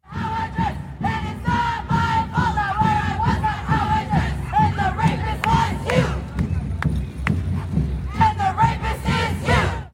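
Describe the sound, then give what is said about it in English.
A protest crowd of maybe 100 or 150 people at the Women's March yells and chants nonstop while dancing, rapping and reciting poetry, many voices merging into loud rhythmic shouting, with sharper, higher-pitched cries bursting out toward the end. “Here's a shot from the Women's March of whole scores of people, I don't know, maybe 100 or 150 people out there, dancing and yelling and rapping and saying poetry about how we're all a bunch of rapists.”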